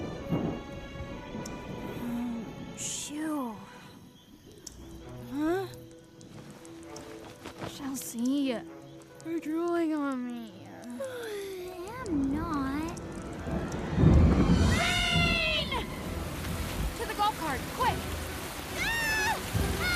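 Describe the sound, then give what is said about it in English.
A steady wash of rain with a heavy rumble of thunder swelling midway, all mixed beneath animated voices talking and bright musical tones. “a lightning flash illuminating their scared faces. Oh, hope the puppies are okay. I'm not too scared by the storm.”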